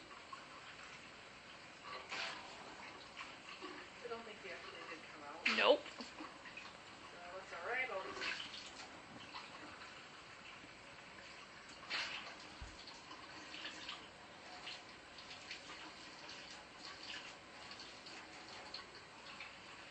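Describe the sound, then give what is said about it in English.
A faucet runs steadily, refilling a cat's water bowl, a soft continuous hiss of water with a few light clinks and taps, heard at low volume. “Refill your water bowl.”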